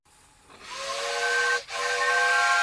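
A steam train whistle blows over a rush of hissing steam, a steady high, multi-toned wail that cuts out for a split second and then resumes just as loud.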